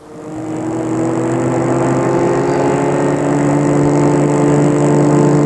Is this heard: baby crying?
no